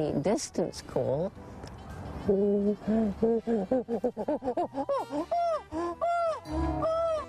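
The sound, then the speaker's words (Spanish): A person imitates a chimpanzee's long-distance call, a loud series of rhythmic hoots that quicken and climb in pitch, building toward excited, wavering cries. “Pero si quiero comunicarme a distancia, la llamada es...”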